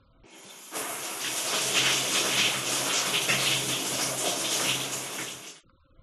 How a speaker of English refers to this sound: No. She isn't listening to music, she's having a shower.